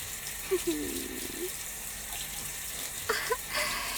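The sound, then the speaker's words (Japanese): A shower sprays water in a steady, continuous hiss for the whole stretch. A few faint, brief vocal sounds break in over the running water. “シャワー当てるのくすぐったいかもしれませんけど、我慢しててくださいね”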